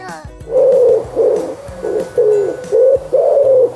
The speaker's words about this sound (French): Est-ce que tu as reconnu ce son ? C'est celui d'un oiseau, oui, mais lequel ? Un perroquet ? Un aigle ? Un moineau ? Pas du tout, voyons, c'est un pigeon.